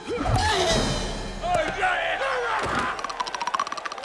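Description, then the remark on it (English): A mace strikes a toy, knocking its head into the crowd: a heavy blunt strike lands with a solid thud, followed by another knock, over a loud roaring crowd and shouting, with a rapid rhythmic pounding near the end. “Reptilus knocks Pengo's head into the crowd with his mace.”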